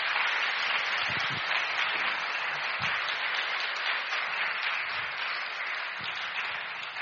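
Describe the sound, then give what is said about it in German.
Sustained audience applause, a dense, steady wash of many hands clapping at even loudness for the full seven seconds, with no voices standing out above it. “Großer Applaus nochmal.”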